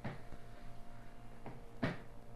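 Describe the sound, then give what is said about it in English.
Three irregular wooden thuds of the Gorgon's head, a head with snakes on it, coming up the stairs, over a steady low hum; the last thud is the loudest. “It sounds like something's coming up the stairs. But it sounds so strange.”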